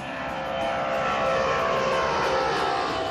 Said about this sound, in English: A small plane.